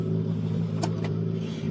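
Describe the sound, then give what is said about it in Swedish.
A rally car engine drones steadily as the car rolls in, its low hum constant, with two brief bursts of higher-pitched revving mid-way and no one speaking. “Ska jag ta nästa bil med så rullar in här?”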